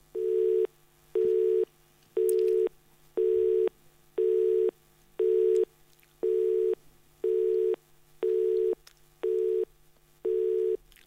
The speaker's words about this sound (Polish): Mamy sygnał zajęty, taki krótki. Halo, halo? Nie ma? Nie ma. Coś się chyba widocznie rozłączyło.